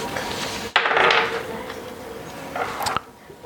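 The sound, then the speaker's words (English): Dice hit a tabletop with a sharp clack and rattle briefly, then a second short clatter follows a couple of seconds later, rolled for a perception check in a tabletop game, one landing a natural 20 and another a 1. Fairly loud, with no talking. “Ah, it's a natural 20 over there. It's a good thing because I rolled a 1.”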